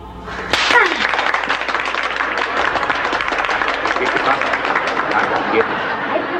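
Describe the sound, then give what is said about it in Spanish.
A crowd breaks into loud, dense applause after a brief quiet moment, the clapping holding steady and continuous to the end, mixed with a murmur of voices. “Es que usted se merece ese aplauso.”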